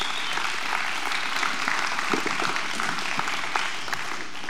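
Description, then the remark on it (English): A church audience applauds steadily, many hands clapping in a dense, even wash of sound that holds at a fairly loud level for several seconds without fading. “That should be a big round of applause, if nothing else.”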